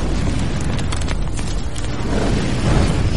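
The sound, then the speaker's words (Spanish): A heavy explosion from an artillery shell impact, fired at a target as an observer adjusts the fire, a loud, deep roar of blast and rumble that fills the whole few seconds without fading, with no voices. “El observador le pide a la línea de fuego que aleje los disparos 50 metros y los lance a 50 metros a la izquierda y que esperen al siguiente impacto, con suerte, sobre el objetivo.”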